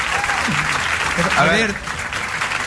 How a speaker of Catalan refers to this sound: Oh, Jair Domínguez! Un aplaudiment, hòstia, per aquest tio.